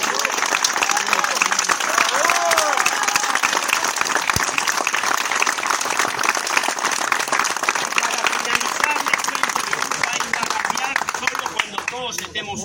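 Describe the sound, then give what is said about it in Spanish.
An audience breaks into loud, sustained applause for a group of 14-year-old youths, dense clapping holding steady for the whole stretch before easing slightly at the end, with some indistinct voices mixed in. “Con lo cual, yo creo que merecen un fuerte aplauso de estos chicos de 14 años.”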